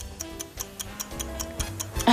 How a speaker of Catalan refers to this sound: I sonarà el nostre rellotge.